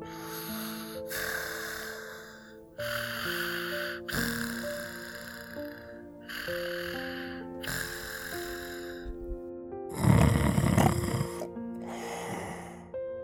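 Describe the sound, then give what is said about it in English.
Rhythmic snoring of Little Owl and Grandpa Owl, asleep after working all night in a children's story, repeats about eight times in slow, even cycles, each breathy snort rising and fading, over a soft, steady tonal background; one snore near the end is noticeably louder and rougher. “They closed their eyes and started snoring.”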